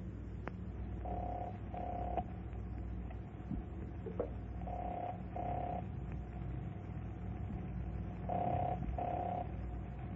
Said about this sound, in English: I can hear the number ringing, but apparently no one's there to answer.